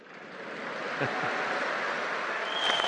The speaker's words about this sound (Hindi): मैं करूं तो खूब ताली बजाते हो, आपको करने की बात आए तो उठ जाते हो।